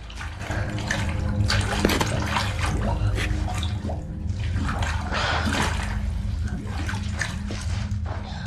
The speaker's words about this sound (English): Then she emerges from under a stone obstruction, out of some water.